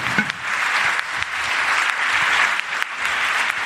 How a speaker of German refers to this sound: Komm auf die Bühne. Und du wirst natürlich, wenn du hier hochkommst, auch einen wunderbaren Applaus bekommen für unseren Gewinner.